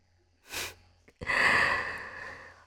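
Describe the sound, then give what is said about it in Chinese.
Heavy breathing: a short, sharp inhale followed after a pause by a long, loud, rasping exhale that slowly tapers off. No one speaks. “喘息的这么厉害，那就先暂停吧。”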